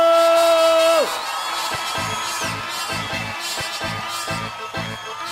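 An audience erupts in loud shouting and cheering, a sustained yell sliding down after a second, then a dense, continuous roar of many voices whooping together.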